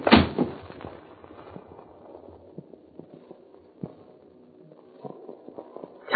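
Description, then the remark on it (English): Hoofbeats of several horses clatter in a quick, uneven rhythm, loud at first, then fading as the riders move off. “Listen. There they go.”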